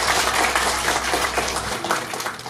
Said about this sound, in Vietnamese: Chúng ta xin một tràng pháo tay được không?